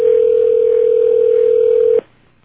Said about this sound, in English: One ringing, two ringing.